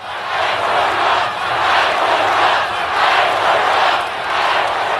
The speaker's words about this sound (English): And the crowd broke into chants of fight, fight, fight on a couple separate occasions.